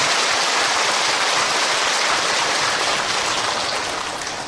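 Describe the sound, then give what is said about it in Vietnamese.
An audience at a Buddhist dharma teaching applauds with steady, dense clapping that fills the whole moment, fairly loud, easing off slightly toward the end. No one speaks over it. “Cho nên một lần nữa lại phải cho một tràng mưa hoa nữa.”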